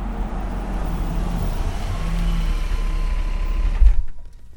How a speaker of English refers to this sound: Suddenly, a blue car comes round the corner. It's Mr. Brewster.